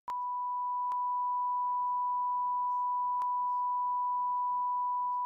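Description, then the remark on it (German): A steady, high-pitched censor beep bleeps out a drinking toast that is not family-friendly, holding unbroken for about five seconds, with a few sharp clicks and a faint voice murmuring underneath it partway through. “Dann müssen wir ihn piepen.”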